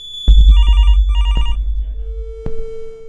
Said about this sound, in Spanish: Un momento. Voy a hacer que llame mi madre. ¿Cómo? Va a sonar el teléfono. Adelante.